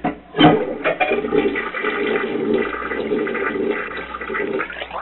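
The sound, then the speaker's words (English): A toilet flushes, starting with a sharp whoosh and continuing as a steady rushing, gurgling swirl of water for several seconds, with no talking. “See, when you flush it, that water comes down in there and it comes right down and hits that hole and that shows it up there.”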